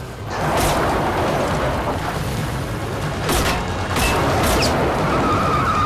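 A car roars away under a dense, loud rumble as its driver hurries off, while several sharp gunshots fired at the fleeing car crack out, a few isolated and then a quick pair, all forceful.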